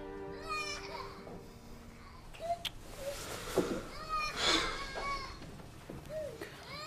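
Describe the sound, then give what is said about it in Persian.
A young child cries in short, wavering wails, some high and thin, repeated with brief pauses over several seconds, moderately loud, with faint background noise. “جانم اومدم، گریه نکن.”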